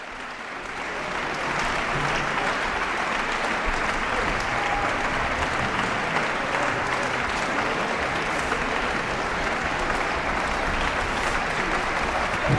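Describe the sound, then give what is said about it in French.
A large concert audience at the Salle des Combins, Verbier Festival, breaks into sustained, dense applause and whistles after Schumann's Second Symphony in C major, played live by the Verbier Festival Chamber Orchestra under Gábor Takács-Nagy. The applause swells within a second or two and stays steady and loud. “Alors il y a des sifflets, mais je voulais surtout parler de l'œuvre.”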